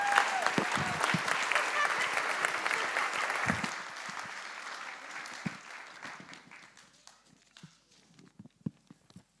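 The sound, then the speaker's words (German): A burst of applause from a group for the speaker's son, dense and steady for a few seconds, then thinning out into scattered individual claps before fading away. “Applaus für meinen großen Sohn.”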